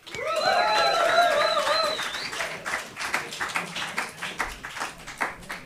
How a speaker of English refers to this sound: So please give a big round of applause to our first music artist tonight.